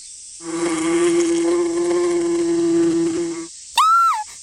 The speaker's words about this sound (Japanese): キャー！皆様、蜂が飛んでいます。